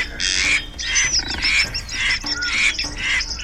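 A large bird lets out a rapid series of loud, harsh squawks, about five raspy bursts in quick succession, as it beats its wings to escape a pursuer swimming in the water by an old bridge, with no voices.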